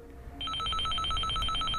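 A telephone rings with a rapid, trilling electronic warble that starts abruptly and continues steadily at a moderate volume. The ring is clear, with no talking over it.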